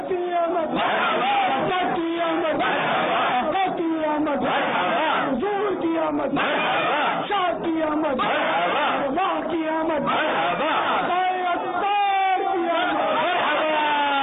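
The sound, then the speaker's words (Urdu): A large crowd chants loud rhythmic responses in unison to Islamic religious slogans, voices swelling together in repeated call-and-response bursts that fill the whole stretch without pause. “آئیے پہلے امیر السنت نعرے لگائیں گے, ہم سارے مل کے جواب دیں گے.”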